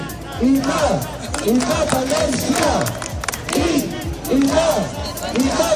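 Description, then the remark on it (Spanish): A large crowd at a Catalan independence protest in Barcelona over the poor state of the Catalan commuter rail service shouts and chants together, with shouts of "puta España" and separatist chants, many voices rising and falling in rhythmic bursts over a constant roar, loud throughout with sharp claps and cries cutting through. “contra el mal estado del servicio de cercanías catalán ha acabado convertido en una suerte de festival del independentismo catalán aderezado con todos los tópicos posibles como quema de banderas, gritos de puta España y cánticos separatistas.”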